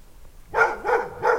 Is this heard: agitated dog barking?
yes